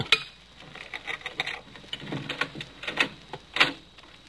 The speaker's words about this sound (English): Cutting up a pane of glass.